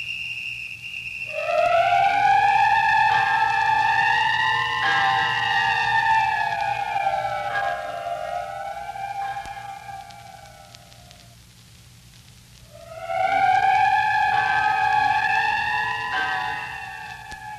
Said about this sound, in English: Don't you hear the whistle?